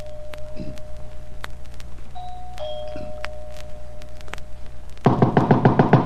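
A doorbell, pushed at the front door of Mr. Simon Andrews's big, unlit house at night, rings inside, starting as a faint, steady muffled tone, then bursting into a louder, rapid rattling ring near the end. No one speaks.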